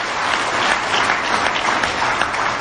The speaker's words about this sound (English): Anyone here in their first year of recovery right now? Yeah, a round of applause, you guys. That's so brilliant.